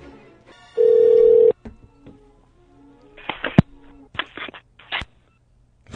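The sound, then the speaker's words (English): A single steady ringback tone sounds over a phone line for under a second as a call is placed to a tool company, followed by clicks, bumps and handling noises as the call connects. “Hi, thanks for calling Rapid Tools.”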